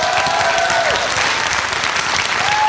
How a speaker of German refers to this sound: Applaus für die tollen Geräusche. Dankeschön.